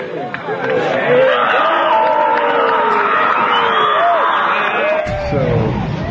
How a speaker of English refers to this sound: A huge fireworks show, and there's a lot more chanting than just the hoorays in the TV show. Also, you hear a lot more frogs because it's a lakeside event.